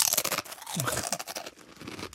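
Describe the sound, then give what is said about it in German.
Crinkly rustling of a crisp bag showing a picture of Beef Wellington being torn open, followed by crunching sounds, fairly loud, with no talking. “Ich mach's dir jetzt mal auf.”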